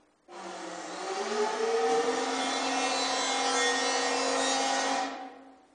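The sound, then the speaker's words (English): A power planer shaves wood from the top of a house door that had swollen in the damp, in one continuous pass of about five seconds, a steady buzzing whine with a raspy edge that starts abruptly and cuts off cleanly. “They planed off the top of her door.”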